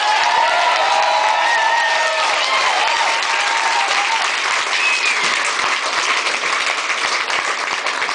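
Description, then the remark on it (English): A large audience at a concert in the Phoenix, Scottsdale, Tempe area of Arizona applauds steadily and loudly to welcome the band, with dense clapping throughout, shouts of cheering, and a few sharp whistles rising above the crowd noise. “I'd like to ask you to give a warm Phoenix, Scottsdale, Tempe, Arizona welcome to the band tonight.”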